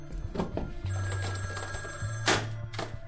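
A telephone bell rings insistently, a sustained, buzzing ring that starts shortly after the beginning and carries on steadily to the end, loud with no one talking.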